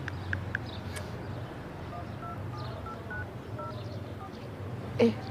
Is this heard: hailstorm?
no